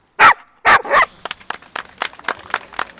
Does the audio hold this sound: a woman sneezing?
no